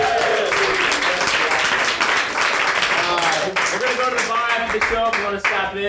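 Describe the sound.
A crowd applauds steadily for several seconds, dense clapping filling the space, with cheering and excited voices mixed in throughout. The applause is for a caller to the show.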